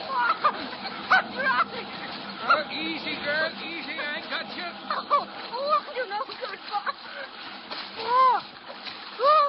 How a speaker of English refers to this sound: Fighting desperately but helplessly in the savage riptide,